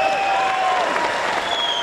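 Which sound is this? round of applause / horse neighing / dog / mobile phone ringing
round of applause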